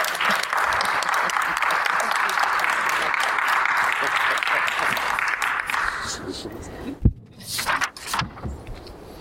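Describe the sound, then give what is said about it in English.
A steady burst of clapping from a group at a board meeting, during the superintendent's report recognizing staff, lasts about six seconds, then fades out, followed by a sharp knock or thud and some brief rustling. “A little applause.”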